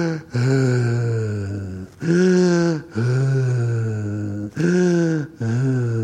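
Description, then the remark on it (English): A voice imitates the loud, heavy breathing of a middle-to-late-aged man in a meditation hall who can only breathe through his mouth: about five long, rasping, partly voiced breaths in and out, each following the last after only a brief pause. “You understand what it meant, because this gentleman, middle to late age, male, Caucasian, he was breathing really loud.”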